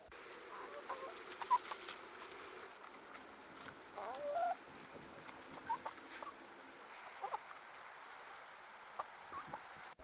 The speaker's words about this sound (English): And in that case, the mic was close enough to the chickens that you could actually hear them picking up the individual seeds and things like that that they were eating. So that gives you an idea for the level of volume there.